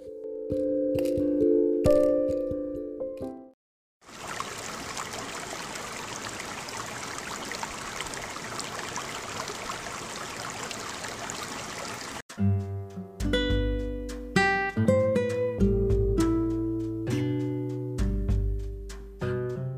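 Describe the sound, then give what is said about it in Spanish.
Running water pours steadily for about eight seconds, a loud continuous splashing rush, as a skincare product is rinsed off the face with plenty of water, with gentle instrumental music playing before and after it. “Ahora retiramos con abundante agua.”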